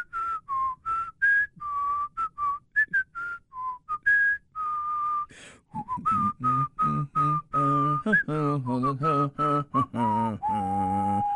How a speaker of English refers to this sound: Not only was he whistling, but he was whistling the theme song of one of our great armed services. I think that's the Marines you were whistling.